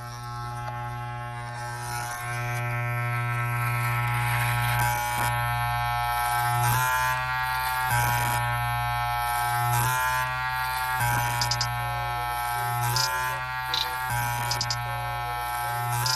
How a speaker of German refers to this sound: Ja, die möchte ich auch bitte hier eingebaut haben. Und zwar der Rasierer.